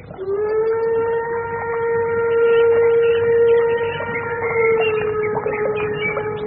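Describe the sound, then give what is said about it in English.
A steam train whistle gives one long, steady blast, a loud, rich mid-pitched tone that holds for several seconds over a low rumbling background, as the train passes through farm country under an overcast sky, its smoke visible. “The train, dear. Oh, yes, I can see the smoke.”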